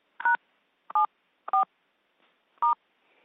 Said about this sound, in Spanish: No te oigo como si alguien estuviera marcando un teléfono.